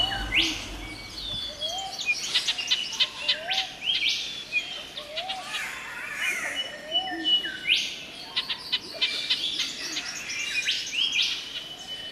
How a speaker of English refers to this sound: There it is, an eastern whipbird, a male, adding to the most marvellous cacophony of rainforest birds. A pretty awesome recording with about 18 species heard in just 1 minute.